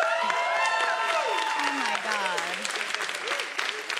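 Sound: studio audience applause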